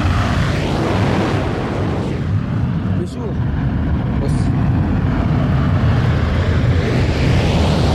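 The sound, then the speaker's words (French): A loud, deep roaring rumble of a volcano's central crater erupting, sustained and steady throughout with a brief dip partway through, heavy low-end and no distinct separate blasts. “Et après, Quelques heures, il fait des explosions.”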